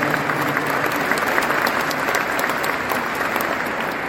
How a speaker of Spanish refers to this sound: Por eso los invito a que demos un aplauso para todos aquellos que exportan, los que lo logran, los que lo intentan y los que lo intentarán.